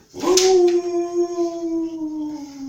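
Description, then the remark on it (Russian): A jackal howls in one long, drawn-out wail that holds a steady mid pitch and sinks slightly as it fades, loud and alone with no talking. “Когда он родился, завыли все шакалы.”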